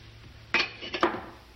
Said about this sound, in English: pours himself a glass of water.